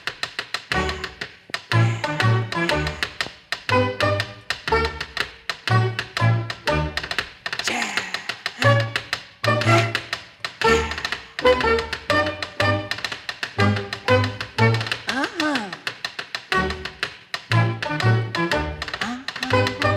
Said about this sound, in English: Here comes Dancing Dan to entertain you with his dancing feet. Listen! Here we go!